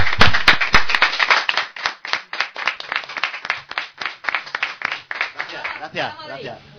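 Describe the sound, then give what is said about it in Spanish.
An audience bursts into steady applause, many hands clapping in a dense, crackling patter that holds for several seconds before thinning out as a voice begins at the end. “Un aplauso.”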